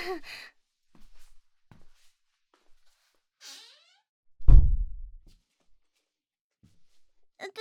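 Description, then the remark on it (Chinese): A classroom door is shut with a single solid thud that booms briefly and fades, preceded by a soft breath and a faint swish. “对啊，好奇怪啊，明明是我说要开门的，为什么我又把门关起来了呢？”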